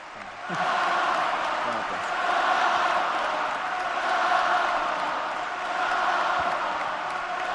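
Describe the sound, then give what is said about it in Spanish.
The crowd in the Carpena arena gives Rafa Nadal a standing ovation, roaring continuously in a dense wash of cheering voices that swells in slow waves, with hints of chanting rising and falling throughout. “Sigue ovacionando en pie todo el Carpena y no dejan hablar a Rafa.”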